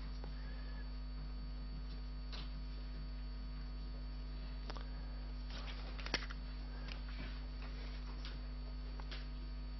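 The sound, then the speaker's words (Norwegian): Faint, scattered scratches and taps of a pen writing notes by hand on paper, in short irregular bursts over a steady low electrical hum, with no one talking. “Jeg bare skriver ned det siden jeg tar dette på sparket.”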